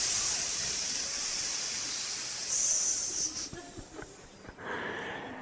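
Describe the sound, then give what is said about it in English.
A voice imitates hundreds of snakes hissing at the door of silos: a long, breathy hiss that swells, breaks into a few short sputtering bursts, then resumes steadily. No words are spoken. “He started walking right toward them, and the snakes were hiss.”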